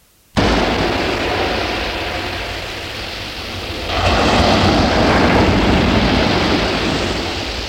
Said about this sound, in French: La porte de la maison s'ouvre et laisse entrer le bruit de la mer.